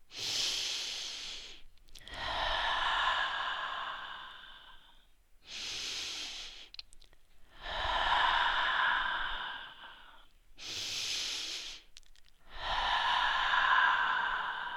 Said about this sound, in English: Now you're ready to begin the practice. We'll start with breathing, taking nice, deep, slow breaths.